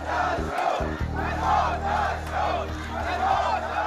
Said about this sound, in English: A crowd of protesters in the Saudi Arabia village of Al Awamiya chanting, "Down with the Saud, death to the Saud," after the beheading of the prominent Shiite cleric Nimr al-Nimra.